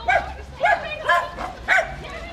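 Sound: dog barking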